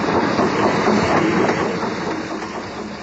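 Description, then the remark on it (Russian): A train rolls past on the rails, a steady loud rumble with rhythmic clatter of wheels, continuous throughout with no voices. “Вот и все, заехал поезд!”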